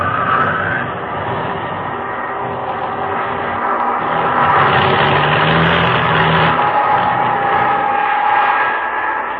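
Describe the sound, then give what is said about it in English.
An aircraft engine with engine trouble drones loudly and continuously for several seconds during a flight over the ocean, its tone rough and slightly uneven as if straining, with no voices present. “Engine trouble.”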